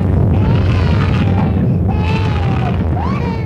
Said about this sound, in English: The blast wave from a thermonuclear explosion has been likened to an enormous door slamming in the depths of hell.